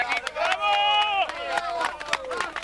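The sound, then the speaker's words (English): Rescuers shout and cheer together in a loud, ragged burst at a hotel buried by an avalanche in the town of Frandole, with sustained high-pitched cries rising over sharp knocks and clatter as the cheering swells and fades across a few seconds. “Rescuers cheering there.”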